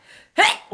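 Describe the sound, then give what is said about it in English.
A single sharp sneeze bursts out suddenly, brief and fairly loud, with a quick breathy tail and no talking around it. “Bless you.”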